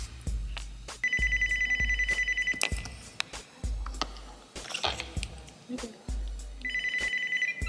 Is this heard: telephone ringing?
yes